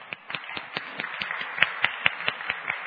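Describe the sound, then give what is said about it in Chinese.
A church audience applauds a young worship team of secondary school and university students with a dense, hissy wash of clapping marked by steady, evenly spaced sharp claps, roughly four or five per second, at moderate loudness, with no voices. “那很多的团员也是大学生，很年轻的团员，但是他们今天能够一起有这样子的表现，那我们用掌声来给他们鼓励。”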